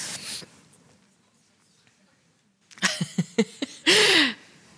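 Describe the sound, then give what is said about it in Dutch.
A sudden loud sneeze bursts out near the end, sharp and breathy, preceded by a few short clicks and thumps amid otherwise quiet. “Gezondheid.”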